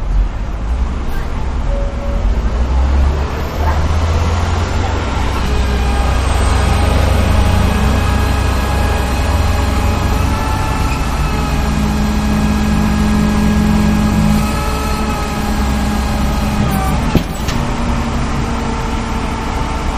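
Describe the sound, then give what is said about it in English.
A tow truck towing a black Volkswagen near Mission and 25th rumbles steadily, its heavy engine droning low with a faint mechanical whine on top, amid continuous street traffic noise. “Past the Washington Mutual and listen to the sound of a tow truck towing a black Volkswagen.”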